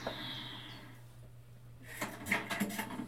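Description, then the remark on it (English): A door is opened into a lecture after a quiet stretch, with a short cluster of handle clicks and rattling knocks, over a steady low background hum. No one speaks. “I try and open the door quietly, failing, of course, as everyone noticed me.”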